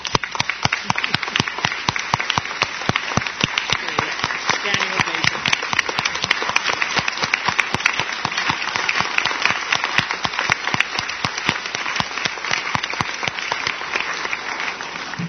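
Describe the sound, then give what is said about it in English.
A crowd at a citizens' assembly session claps steadily for four political science professors, dense overlapping handclaps at a fairly loud, even level with no talking over it. “And I'd also, on behalf of the Citizens Assembly, we have been very fortunate to have four political scientists professors here, and I think they deserve a big round of applause.”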